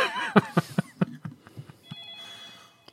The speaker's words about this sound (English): Hello. Don't answer the phone. Don't answer the phone.